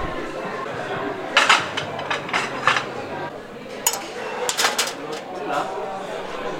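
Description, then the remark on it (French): Plates and cutlery clatter as they are set down and put away, two bursts of bright clinks and knocks with a faint murmur between them. “Allez, on pose tout ça. Donc les couverts.”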